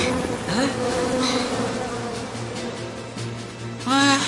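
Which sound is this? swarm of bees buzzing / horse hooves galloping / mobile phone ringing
swarm of bees buzzing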